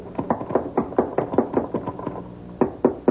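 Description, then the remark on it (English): Rapid, loud knocking on a wooden trap door at the top of a ladder, a fast string of about a dozen hollow thuds, a brief pause, then a few more hard bangs; no voices. “You get to the top, just bang on the trap door.”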